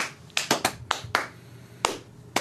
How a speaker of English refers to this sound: Round of applause for the panel. Round of applause for the panel. Wow. Yay.